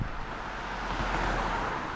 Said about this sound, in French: Bon, y a deux voitures qui se suivent, ça, à mon avis, c'est un phénomène. Écoutez.